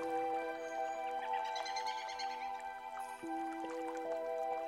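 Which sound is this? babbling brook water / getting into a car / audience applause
babbling brook water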